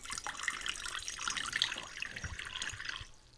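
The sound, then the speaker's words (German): Lukewarm water pours steadily into a large bowl for about three seconds, the first step of making a rye bread dough: a bright splashing rush that fades out at the end, with no talking. “Zuerst das Wasser in eine Schüssel geben.”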